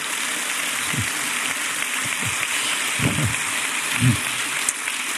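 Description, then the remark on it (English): An audience applauds Bible teacher John MacArthur on his 40 years of ministry at Grace Community Church, a dense, even patter of many hands clapping, with a few brief low vocal sounds from the crowd rising through the clapping. “You should be applauding the people who have endured all of this for all these years.”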